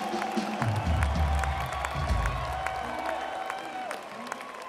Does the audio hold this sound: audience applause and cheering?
yes